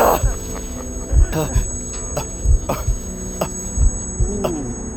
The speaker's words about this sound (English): Sound was pulsating in and out of my ears, in time to my deceptively calm heartbeat.